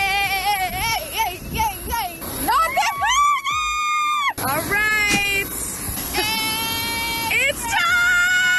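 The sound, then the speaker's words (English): Several women, Sophia Richie and her girlfriends including Kylie Jenner, squeal and shriek excitedly as they board a private jet to Vegas for her 21st birthday, in overlapping high-pitched bursts, with sustained rising and falling cries over a lively background of chatter, loud throughout. “You can hear the squealing as she and her girlfriends, including Kylie Jenner, got onto their private jet to go to Vegas.”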